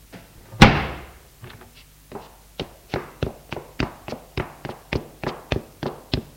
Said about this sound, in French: Il plaque la porte et descend les escaliers.